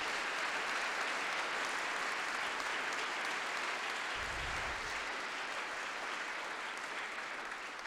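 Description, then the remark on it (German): An audience at a church service claps steadily, a dense, even wash of many hands sustained for several seconds at a fairly quiet, constant level, with no voices rising above it. “Und dafür mal vielleicht einen kleinen Applaus und Dank an alle, die heute hier so viel machen.”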